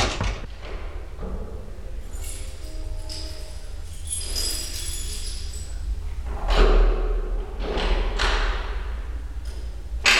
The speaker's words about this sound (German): Er zog Werkzeug aus der Tasche seiner schwarzen Lederjacke und machte sich am Schloss zu schaffen.